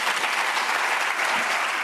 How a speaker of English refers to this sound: Her speech was applauded, but also criticized.